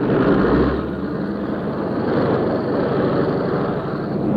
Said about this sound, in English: But as the Spitfires began to take off from our flight deck on the last leg of their journey to Malta, the routine was abruptly shattered. Prepare to launch aircraft. Prepare to launch aircraft. Launch aircraft.